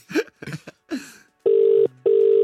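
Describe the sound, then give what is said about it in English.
A telephone ringback tone sounds two steady, buzzing pulses close together, loud and clear, after a few short muffled voice-like bursts as a call is placed to a friend's phone. “Right, let's ring it.”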